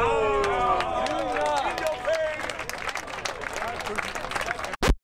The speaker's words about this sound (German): Und dafür kriegt er einen Applaus.